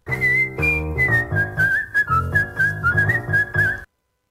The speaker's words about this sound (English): Okay. All right, here we go. Name the following whistling songs.